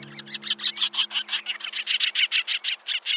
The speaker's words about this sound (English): And my number one sandpiper, the sanderling.